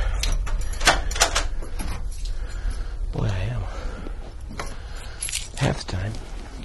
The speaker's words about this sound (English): So let's unlock the old office door.